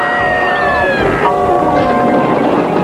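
vehicle, train on rails

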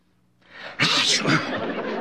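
human body sound, sneeze

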